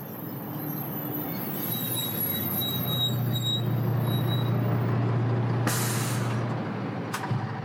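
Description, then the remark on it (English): A truck rumbles on a road as its brakes squeal in a thin high whine, then loud bursts of air-brake hiss sound near the end as it comes to a halt. No one speaks. “Yeah, nothing to do but stop.”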